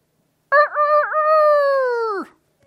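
A single loud rooster crow rings out, starting with a couple of quick rising notes before stretching into a long, sustained call that drops off sharply at the end.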